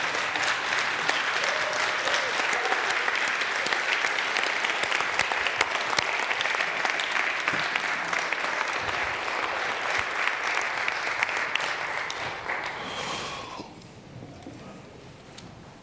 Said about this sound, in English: And if you believe that God has a purpose in your life, stand up right now and give God a round of applause.